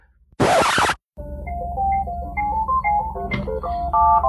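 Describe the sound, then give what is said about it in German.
A short burst of rushing noise cuts off, then a phone ringtone plays a bright electronic melody of stepping notes, moderately loud, with no one speaking. “Hier klingelt mein Telefon.”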